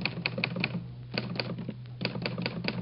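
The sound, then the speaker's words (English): Keys of an Underwood manual typewriter clack in quick bursts of several strikes, separated by short pauses, fairly crisp over a low steady hum, with no voices. “I'll type out the exact phrase for you now on my Underwood typewriter.”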